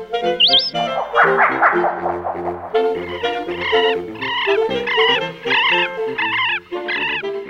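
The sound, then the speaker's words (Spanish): A southern lapwing (queltehue) calls loudly, giving a rapid series of harsh, strident notes repeated in quick succession, with a brief rising whistle at the start and no talking. “Esta simpática y cercana ave es el queltehue, fácilmente reconocible por su tamaño y hermosos colores.”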